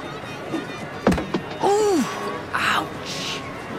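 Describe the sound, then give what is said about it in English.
Two sharp thuds of balls thrown by a burly man at a carnival can toss, failing twice to knock down the cans, land about a quarter second apart, followed by a drawn-out, falling groan and another brief vocal sound over a murmuring crowd. “The burly guy fails twice to knock down the cans.”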